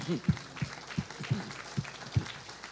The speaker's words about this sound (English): Isn't that wonderful? Yeah, that's worth clapping over. Amen.